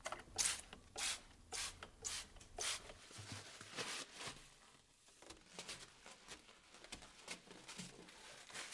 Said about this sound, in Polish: I okno piąte. Tu mamy zwyczajny płyn do mycia okien. W każdym razie taki napis jest na jego opakowaniu. Też z octem. Dopryskamy.